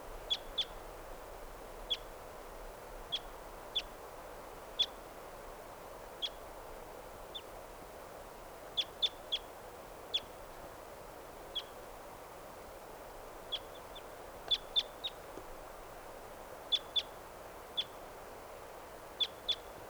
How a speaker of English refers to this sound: Yep. 5:58, here's that same wild bird.